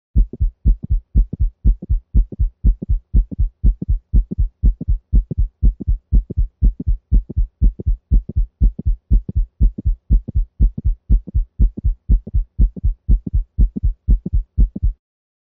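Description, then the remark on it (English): A rapid, steady heartbeat at 120 beats per minute, with mid-systolic clicks in the mitral valve region, each beat a low thudding lub followed by a sharp click and then a dup, repeating evenly with no voices. “Listen now to mid-systolic clicks in the mitral valve region.”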